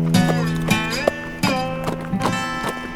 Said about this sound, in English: He kept the horse moving at a slow, deliberate walk